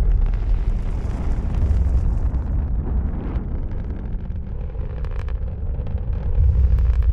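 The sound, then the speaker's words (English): A rocket engine roars continuously at a NASA launch after a countdown: a loud, deep rumbling blast with crackling texture that holds steady for several seconds and swells again at the end. No voices. “The rocket's engine fires up.”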